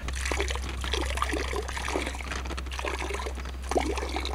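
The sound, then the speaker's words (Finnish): Cool river water pours steadily into a container, added little by little, a continuous splashing trickle with bubbly gurgles throughout, over a low constant hum and no voices. “Niin, ja, mutta se ei ole sille ongelma, että me voidaan sinne pikkuhiljaa niin kuin lisätä sitten jokivettä.”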